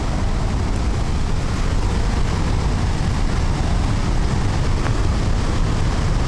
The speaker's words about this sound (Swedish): Och man hör ju här vattenmassorna. Ni ser vid Handölsforsen också.